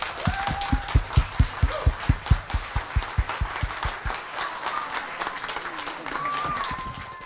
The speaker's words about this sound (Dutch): Heer, en we danken u, Heer, en prijs uw naam, we geven een hele grote applaus. Halleluja. Amen.